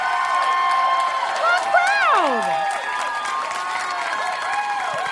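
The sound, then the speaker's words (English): An audience at a comedy show claps steadily while voices whoop and cheer over it, the loud mix of applause and shouts filling the whole stretch without a pause. “You guys are such a hot crowd.”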